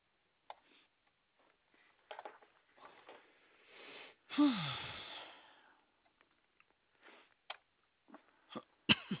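Several short coughing bursts scattered across the moment, with one longer, harsh, wheezy cough in the middle that trails off. Not loud, with quiet pauses between and no talking.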